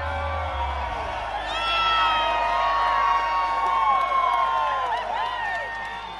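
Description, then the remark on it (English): A large election-night crowd in downtown Austin, Texas erupts in loud, sustained screams and cheers of joy as media called the governor's election for Greg Abbott, many high voices overlapping in whoops and shrieks, with some scattered clapping underneath. “Screams of joy burst from the crowd as the national media outlets and the Associated Press called the election for Abbott, showing the Republican with 58% of the vote, with his Democratic rival Wendy Davis at 41% of the vote.”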